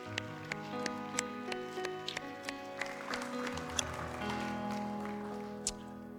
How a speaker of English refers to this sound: Would you just give the Lord a hand clap of praise for this life over here? Wow, praise God.